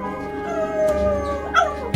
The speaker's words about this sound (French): Mon chien s'est mis à hurler à la mort devant la porte de Monsieur Bergamot.